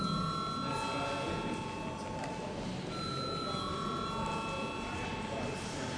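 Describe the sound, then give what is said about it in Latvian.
A parliament chamber bell in Latvia rings before a vote on a bill's urgency, continuous and steady for the whole stretch, a bright, sustained metallic tone with a buzzing edge and no pauses, over a faint background murmur. “Lūdzu, zvanu.”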